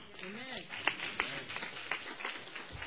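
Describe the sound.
Scattered hand claps ring out from a crowd, a few sharp ones standing above a murmur of voices and shouts.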